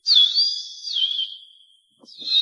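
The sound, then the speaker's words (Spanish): A person imitates a signal whistle heard in an elegant dining hall, whistling a high, steady tone with a slight waver for well over a second, pausing briefly, then whistling again. The whistling is clear, with no talking. “un silbido más o menos así.”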